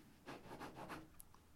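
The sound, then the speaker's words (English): A pen scratches quickly back and forth on paper in a few rhythmic, raspy strokes, scribbling things out, quiet, with no voices. “I've done this on paper today, so you might hear me scribbling things out as I read them out.”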